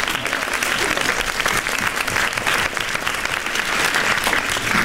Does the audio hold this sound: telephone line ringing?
no